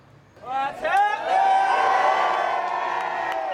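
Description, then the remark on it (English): A large crowd roars and cheers at a concert by a controversial Irish-language hip-hop band from Belfast, whoops and shouts rising quickly into a sustained, loud wall of voices that holds steady throughout. “certainly know how to attract a crowd.”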